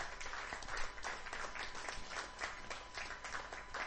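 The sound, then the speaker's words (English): A church audience gives the Lord a clap offering at the end of a sermon, a dense wash of many hands with a few louder individual claps standing out, sustained at an even level throughout. “Now, are you clapping because I'm done, or are you clapping because you're really excited?”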